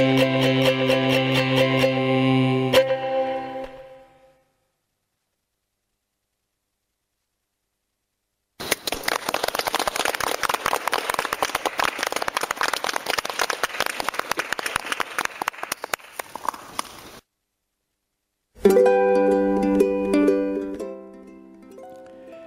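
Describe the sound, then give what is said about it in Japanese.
A burst of dense, steady applause recorded on a CD lasts several seconds. It is set between stretches of bright plucked ukulele music, with silent gaps on either side. “なんと拍手まで入ってるという CD です。”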